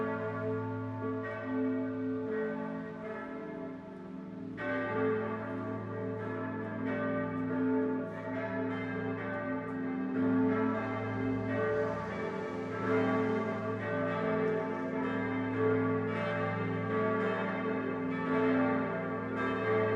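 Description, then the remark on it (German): A full peal of seven church bells rings together continuously to ring in Christmas, dense overlapping strikes with rich sustained harmonics blending into a steady wash, loud, with no voices. The bells, five from Heilbronn and two from Bamberg, hang in the north and south towers of the Basilica of Gößweinstein in Franconian Switzerland. “Zum Schluss läuten nicht weniger als 7 Glocken die Weihnacht ein.”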